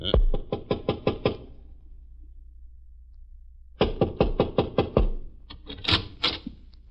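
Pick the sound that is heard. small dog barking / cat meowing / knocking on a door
knocking on a door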